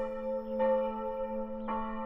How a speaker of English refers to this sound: Ringing of the bells, let evil leave my land. Ringing of the bells, help me to reach the end. Peal of the bells.